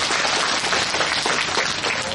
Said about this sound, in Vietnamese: Xin cho một tràng pháo tay thật lớn này.